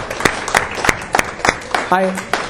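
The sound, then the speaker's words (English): A church group claps hands as a clap offering during a Bible study, in a loose, steady rhythm, sharp slaps landing about three times a second, with a brief voiced cry rising over the clapping near the end. “Yeah, let's give a clap offering.”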